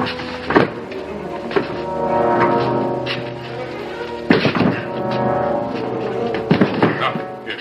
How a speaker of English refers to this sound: They turn toward the wine cellar. Rudolph tries to open the door, but it won't budge. He slams against it with his shoulder.